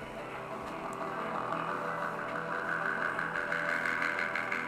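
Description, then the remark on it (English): Synthwave music plays from a phone speaker: sustained, droning synth tones hum steadily and grow gradually brighter and fuller over several seconds, with no one talking. “those movies always had that soundtrack, that whole synthwave soundtrack thing going on.”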